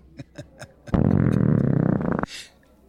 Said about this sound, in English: Was that a belch?